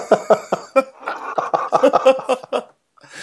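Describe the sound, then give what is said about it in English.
A heavy, hacking coughing fit: a rapid string of about ten rough, loud bursts, running for a couple of seconds before breaking off into a brief silence. “Listen to that cough.”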